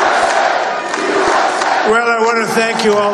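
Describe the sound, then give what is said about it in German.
A large crowd at Donald Trump's election victory event at his campaign headquarters in Florida cheers and roars loudly and continuously as he takes the stage, with a rising chorus of shouting voices joining in partway through. “Jubel in Florida.”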